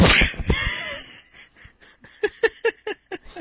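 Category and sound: human body sound, sneeze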